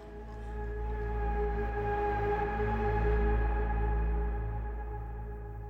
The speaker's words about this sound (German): Einige stoßen ihre langen Rüssel ins Gesäuge. Die Sau beginnt rhythmisch zu grunzen. Dann weiß man, jetzt kommt die Milch.